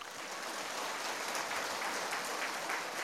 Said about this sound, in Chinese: 鼓掌的人基本上都不是神经病。我发现有六个人没鼓掌，那是神经病。